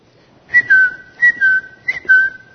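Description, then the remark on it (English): Someone whistles three short rising-then-falling phrases in imitation of a bird's tweet, each a bright, clear high tone with a slight chirp at the start, separated by brief pauses. “What is that? Tweet, tweet, tweet, tweet.”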